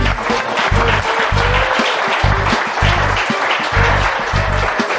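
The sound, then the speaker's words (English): A crowd at an event at Seminole Community College's Sanford Lake Mary campus applauds the presenters steadily for about five seconds, a dense wash of clapping hands that stays loud throughout, with a low rhythmic thumping pulsing underneath. “A round of applause for these guys.”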